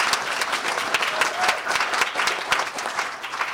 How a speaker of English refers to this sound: And so let's give Brother Travis a round of applause.